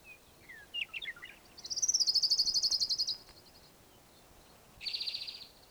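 An orange-crowned warbler sings a rapid, high-pitched trill that slows slightly at the end, preceded by a few scattered chirps and followed by a shorter trill, with no one speaking.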